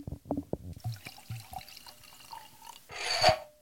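Wine pouring into a glass: a few small trickles and drips, then a brief, louder gushing pour near the end. No one is talking.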